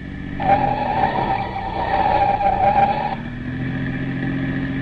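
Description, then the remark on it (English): A police car's engine roars at high speed with the accelerator pushed to the floor while the tires let out a sustained, shrill squeal for about three seconds as it skids through a turn, then the engine keeps droning on. “I've had the accelerator pushed clear down to the floor ever since we left.”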